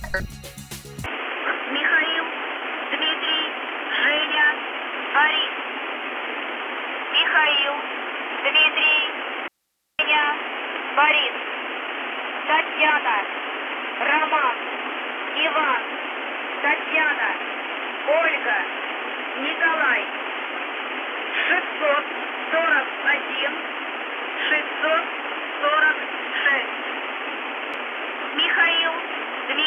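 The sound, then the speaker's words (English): A crackly shortwave radio transmission from the station called the Buzz, heard on July 6th, thin and band-limited, with hissing static and a muffled, indistinct voice reading a very odd message through the noise, interrupted by a brief dropout partway through. “The buzz returns on July the 6th with a surprise, a very odd message. We will play it for you now.”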